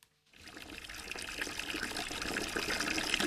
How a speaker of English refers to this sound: For this calf and bay, we don't actually have a water feeder. So I'm old school, filling a big old bucket that we used to make cider in.